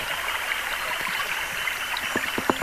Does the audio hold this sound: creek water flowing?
yes